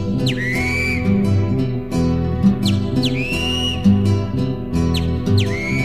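A great kiskadee calls three times, each a sharp, bright whistled note that swoops downward, ringing out clearly over steady instrumental music playing underneath.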